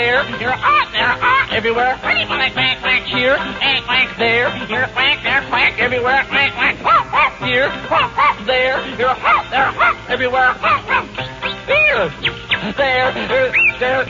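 A steady stream of loud duck-like quacks, repeated rapidly and overlapping for the whole stretch, with a voice-like quality that suggests people imitating a duck rather than a real bird, sung as part of the nursery rhyme "Old McDonald Had a Farm".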